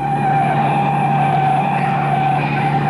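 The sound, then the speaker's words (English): The siren of a police patrol car following behind sounds loud, holding a steady, slightly wavering tone over the continuous rumble of a moving car, with no voices. “We're going to need a patrol car to back us up. We've got one following us.”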